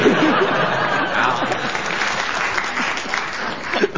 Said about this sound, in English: Ah, he receives a book token and this round of applause.